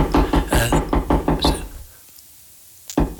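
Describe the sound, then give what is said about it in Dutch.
A rapid, steady series of about eight loud knocks, followed by a brief silence and then a single knock near the end. “Waar komt dat kloppen vandaan?”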